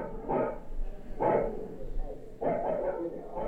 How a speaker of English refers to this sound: And during every visit, I lean into each apartment door and eavesdrop. Behind one door, people are watching TV. Behind another is a dog.